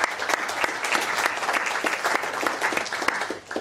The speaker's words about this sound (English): So let's give a massive round of applause to all three partners, please.